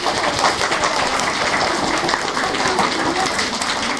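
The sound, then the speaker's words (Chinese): Sustained applause from an audience at a school event, clapping to thank the school leaders for supporting the event; a dense steady patter of many hands clapping at once, fairly loud and continuous throughout with no one speaking over it. “那首先呢，我们先感谢我们的校领导对这次活动的支持，大家鼓掌。”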